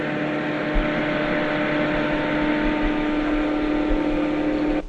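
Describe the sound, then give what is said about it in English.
A steady electric motor hum from the spinning rotor at about 2,200 RPM while the motor charges big golf cart batteries, with a strong low tonal drone and harmonic overtones, holding even and fairly loud before cutting off abruptly at the end. No one speaks. “All right, now the hum we're hearing is caused by what part of that motor? The rotor.”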